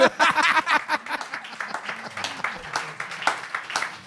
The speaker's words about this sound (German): Das ist, guck mal, sie klatschen auch alle so traurig.